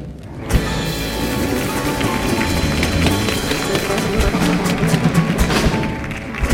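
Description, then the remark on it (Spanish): A show's audience breaks into steady, dense applause for actors coming on, continuing at an even level for several seconds, the crackle of many hands clapping filling the whole stretch with a few sharper claps standing out. “Así que, por favor, fuerte el aplauso para Lucy Paradise, Vicente Ruidos y Carlos Granadero.”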